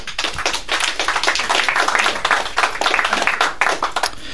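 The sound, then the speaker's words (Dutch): An audience applauds gratefully and steadily at the presentation of a photo book on local history, a dense wash of many hands clapping at an even, lively level throughout, with no voices standing out. “Dankbaar applaus en inderdaad een prachtig fotoboek.”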